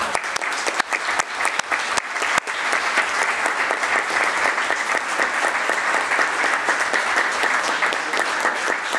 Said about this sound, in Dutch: Die mensen die alles in goede banen hebben geleid en waarvoor absoluut een klein applaus ook op zijn plaats is.